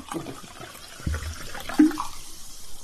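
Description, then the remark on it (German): Water and apple juice are poured into a glass to mix a spritzer: liquid splashes and gurgles for a few seconds, a steady watery pour with a brief rising tone near the end, and nobody talks over it. “Ich nehme Wasser. Apfelsaft oder... dann mische ich es mir.”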